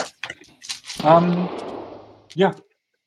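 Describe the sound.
A single sharp gunshot cracks out between mountains and rolls away in a long, fading echo over about a second, with brief bits of voice before and after it.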